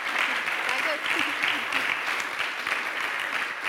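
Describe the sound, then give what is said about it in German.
Sustained audience applause at a conference, a dense, steady wash of many hands clapping at once with no pauses, with faint voices murmuring underneath. “Ihr dürft ruhig noch mal ordentlich klatschen.”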